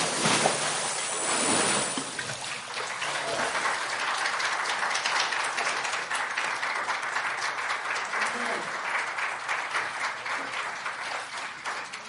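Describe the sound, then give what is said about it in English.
A loud, brief watery splash as a young man is baptized by immersion, followed right away by a crowd applauding steadily and cheering for the next ten seconds, with voices mixed into the clapping. “He made a big splash.”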